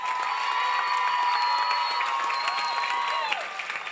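An audience applauds and cheers steadily, dense clapping mixed with sustained shouts and whoops that stay loud throughout before easing slightly near the end.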